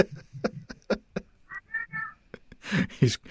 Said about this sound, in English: Oh, there's my cat. Thank you, Doodle.